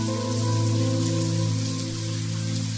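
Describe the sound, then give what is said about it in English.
Steady rain pattering on a surface, a continuous even hiss layered beneath a sustained, low musical drone, with no voices present. “Gracious Father, we thank you for the rain which rains down upon the world.”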